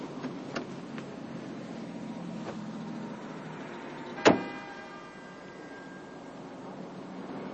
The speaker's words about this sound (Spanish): Buddy espera en un Ford de color azul. Jimmy tira el hueso de pollo. Entra en el coche.